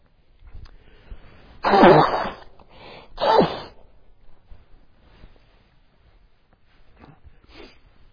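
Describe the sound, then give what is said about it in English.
Two loud, harsh coughing bursts, followed by softer throat clearing and a few faint breathy sounds, with no talking. “Excuse me, I need time out to cough on this one, and I better do it now.”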